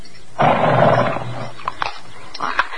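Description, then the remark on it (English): A horse named Silver, being fed from someone's palm, gives one loud, breathy snort, followed by quieter scattered sounds that could be chewing, with no one talking. “I did it. I fed him. You see, you're really not afraid of horses at all.”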